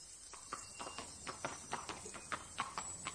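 Horse hooves clip-clop in a steady walking rhythm, roughly a dozen sharp, even knocks over a few seconds, fairly faint and heard on their own without any talking.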